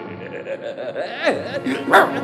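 A small dog gives a run of high-pitched yips and whiny barks, several short bursts rising and falling in pitch, with the sharpest yelp near the end.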